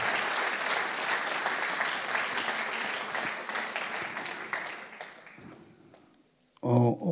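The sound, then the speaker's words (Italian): An audience claps steadily for several seconds in applause for Jesus, a dense, broad wash of applause that gradually thins and fades out, followed by a brief burst of a different, voiced sound at the very end. “Facciamo un applauso a Gesù.”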